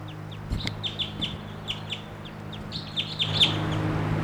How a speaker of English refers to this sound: Bird here.